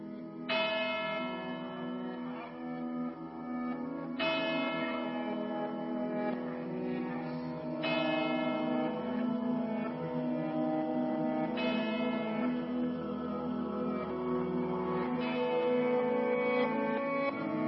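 Church bells toll slowly and steadily, five loud resonant strikes spaced a few seconds apart, each ringing tone lingering and overlapping the next, with no voices present.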